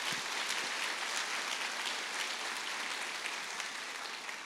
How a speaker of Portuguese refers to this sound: Se você orou com fé, dá uma salva de palmas para Jesus.